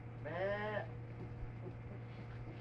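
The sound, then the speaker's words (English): A person briefly imitates a sheep with one short, wavering "baa" bleat, followed by quiet room noise and a steady low hum. “It's bleat like a sheep”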